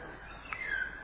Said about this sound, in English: So there they go again. So this is a fault-finding mind, even with something so beautiful like the birds chanting.